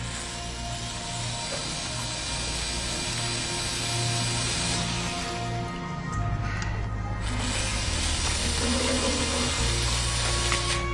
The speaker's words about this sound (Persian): بسیار خوب، این قسمت خیلی مهمه. باید خیلی دقت کنی. دور سوراخ رو دریل کن تا باز در بشه. باید سعی کنی فشار رو کم کنی.